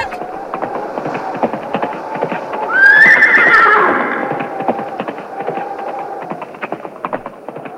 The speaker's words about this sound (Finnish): Siinä se äykötys meni portista sisään. Tuli vaan leisku hevosen sieraimista. Kaviotiski tulta. Tonne se hävisi päärappusta eteen.